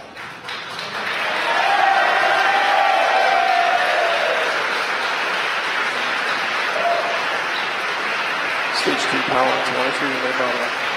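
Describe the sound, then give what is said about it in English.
A crowd cheers and shouts continuously in a broad, steady roar that swells in the first seconds and holds, with scattered whoops and clapping throughout, after a SpaceX Falcon 9 first-stage booster landed on the drone ship Just Read the Instructions in the Pacific Ocean off California. “You can tell by the cheering in the background.”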